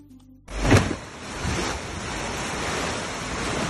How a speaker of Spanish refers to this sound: En Asturias, en la localidad de Bioño, las calles se han convertido literalmente en ríos. El agua bajaba con tantísima fuerza que se ha llevado corriente abajo los coches que estaban aparcados.